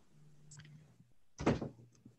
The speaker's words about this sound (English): close that door, please,